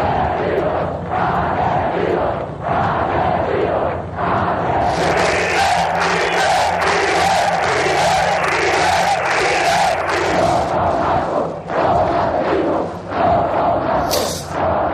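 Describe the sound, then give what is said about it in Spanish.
A large protest crowd in Ermua loudly chants "murderers" in Spanish at ETA, the shouted word repeating in a steady, rhythmic pulse for the whole stretch, with claps and thuds mixed into the roar. “En Ermua se gritó asesinos a ETA desde el primer día.”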